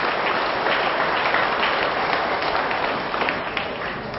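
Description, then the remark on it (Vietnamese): A crowd at an exchange programme at Giác Ngộ pagoda applauds steadily for those who correctly remembered all four points, dense overlapping claps at an even, fairly loud level for several seconds before easing slightly toward the end. “Thế vậy hãy dâng cho một tràng vỗ tay cho những người nhớ đúng cả bốn nội dung.”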